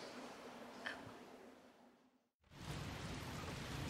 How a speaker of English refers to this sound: If it rains any harder, I'll go inside. I got one of those 10x10 tents so I could find some peace up here.